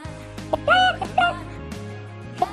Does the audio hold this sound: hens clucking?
yes